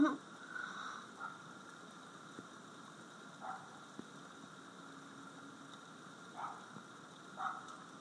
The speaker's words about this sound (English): Yep. There's a dog barking.